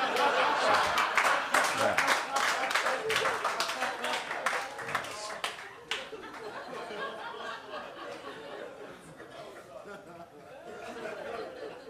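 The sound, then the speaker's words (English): An audience breaks into dense, steady applause mixed with laughter for about six seconds, an applause break for a joke about throwing rocks at children, then the clapping thins out into a murmur of crowd chatter and scattered chuckles. “Rare that you get an applause break for throwing rocks at children.”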